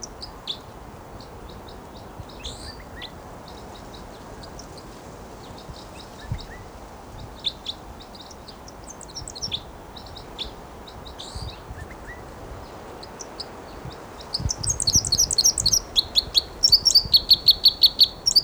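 A wild bird, one of a flock of three, sings a flight song: scattered high chirps and thin calls over steady outdoor hiss, building at the end into a rapid, louder run of bright repeated notes as it moves to another perch.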